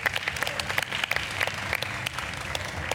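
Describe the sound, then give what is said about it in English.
A live audience bursts into steady applause, dense overlapping claps at a fairly loud level, sustained without pause and with no voices heard above it. “Please give Flora a massive round of applause.”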